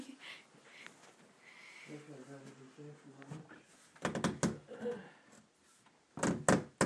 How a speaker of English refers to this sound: Gosh, the door.